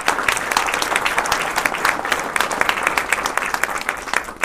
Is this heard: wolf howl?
no